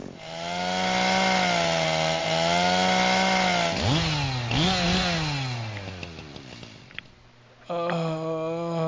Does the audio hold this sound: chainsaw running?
yes